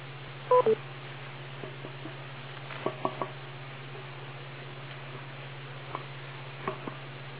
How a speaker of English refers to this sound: I hear the sound of microphonics being tested. Somebody's tapping on a rig.